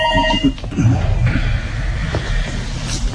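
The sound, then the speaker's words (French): A brief electronic telephone ring from an incoming call sounds at the very start and cuts off after half a second, leaving muffled background rumble and faint indistinct voices. “Alors on est interrompu par un coup de téléphone”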